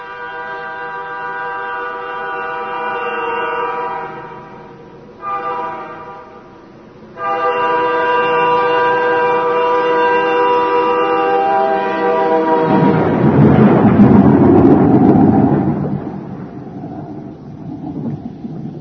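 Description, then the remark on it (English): A storm with thunder: a steady, droning tone holds for several seconds, then a loud, deep roll of thunder rumbles before fading away. No one speaks. “Storm.”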